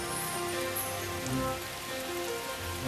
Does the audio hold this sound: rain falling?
yes